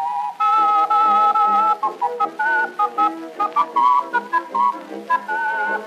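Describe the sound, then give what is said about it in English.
Two people whistle a tune together, starting with long sustained notes and moving into quicker, choppier phrases. The whistling is fairly loud, with no talking. “All right, we'll whistle together.”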